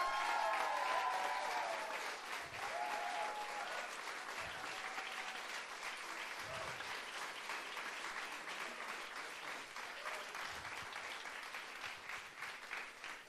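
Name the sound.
audience clapping and cheering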